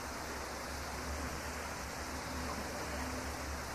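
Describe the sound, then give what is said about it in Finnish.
Steady rain, a continuous even hiss of falling water with a soft low rumble beneath, unchanging in loudness throughout, with no voices. “Jos tuo nyt on sadetta, niin toivotaan, että tänne tulee yhtä runsas hengensadekin.”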